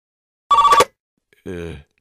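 A single short ring of Premier Vasily's telephone, a fairly loud trilling burst, followed after a brief pause by a low, murmured vocal sound.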